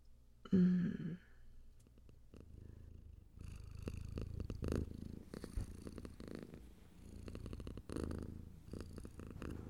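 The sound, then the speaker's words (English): A brief voiced sound at the start, then a steady low purring rumble from a cat that pulses rhythmically for several seconds with no talking. “Get all comfortable and purr.”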